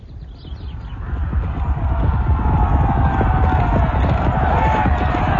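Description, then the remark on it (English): A dense rumble of many horse hooves pounding at once, a French cavalry charge of men on horseback galloping, steady and loud throughout with a deep, earthy thunder. “The very earth shook under the enormous weight of men and horses.”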